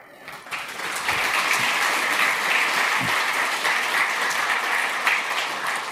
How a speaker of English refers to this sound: Give him applause.